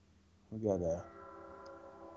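A train horn blares briefly, a short harmonic blast lasting about half a second, followed by a lingering tonal rumble of the passing train.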